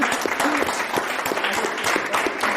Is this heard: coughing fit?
no